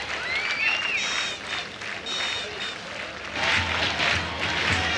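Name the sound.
stadium crowd applause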